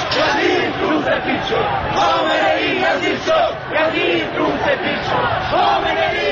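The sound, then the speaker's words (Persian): A large crowd of people protesting an election result beat their chests and chant harsh protest slogans against the ruling authorities in loud, rhythmic unison, many voices shouting together continuously with rising and falling surges of energy throughout. “مردم سینه میزنند و شعارهای اعتراضی سر میدهند.”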